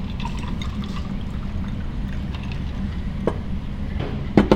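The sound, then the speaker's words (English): Water pours steadily into a glass, a continuous gurgling stream with a couple of sharp clinks toward the end, as a speaker gets some water before giving a talk. No one speaks. “Just a moment while I get some water.”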